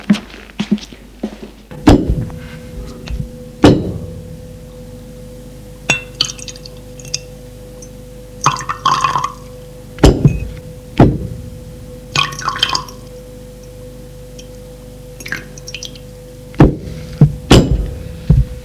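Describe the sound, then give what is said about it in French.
Champagne bottles and three glasses, brought with appetizers by a maître d'hôtel, clink and rattle on a rolling serving trolley, with a series of sharp, irregular chinks and knocks over a low steady hum, some louder taps standing out. “C'est le maître d'hôtel qui apporte les bouteilles de champagne avec des amuse-gueules et trois verres sur une table roulante.”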